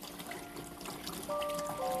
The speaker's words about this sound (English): You wouldn't even have to look to know what I'm doing right now. You can hear the water running. You know that I am cleaning the paintbrush.